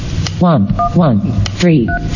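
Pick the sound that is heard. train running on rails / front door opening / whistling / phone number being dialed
phone number being dialed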